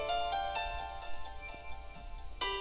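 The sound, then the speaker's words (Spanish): A mobile phone rings during a sermon with a bright, melodic electronic ringtone, its notes shifting in a steady tune, a fresh phrase starting near the end, with no voices over it. “les pedimos que prendieran el celular. Hello. Dad, Dad. ¿Cómo estás, Suri? Bien, ¿y tú? Me agarraste en medio de la predicación”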